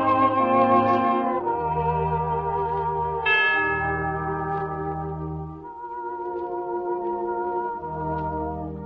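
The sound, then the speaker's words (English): Walter Bloff plays bright chimes in a slow melody over sustained organ chords and lush strings on the Refreshment Club, with rich overlapping harmonics filling the mix at a steady, moderate loudness and no voices. “Walter Bloff is with the organ, the strings, and chimes.”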